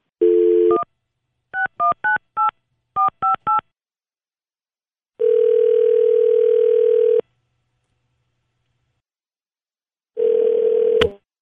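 A steady dial tone, then a quick series of eight keypad beeps in two short bursts, followed by a longer tone and another tone ending in a click, all clear with no voices.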